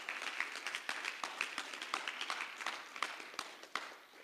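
A crowd applauds steadily, many hands clapping in a dense, continuous wash with a few sharper individual claps standing out, plus faint whoops and cheers mixed in, fairly quiet overall.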